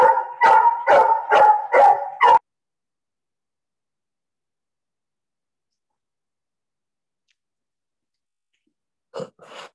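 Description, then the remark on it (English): A dog barks five times in a quick, loud burst, then goes quiet; after a long silence, one more short bark sounds near the end. “My neighbor asking me to walk the dog.”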